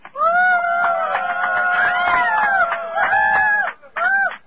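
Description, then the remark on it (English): A group of people in a van moving along West 55th Street toward Times Square cheer for Fiber, whooping with loud, sustained, overlapping high-pitched yells for almost four seconds, then break briefly before one last short burst of shouting. “Why don't we ask them to make some noise?”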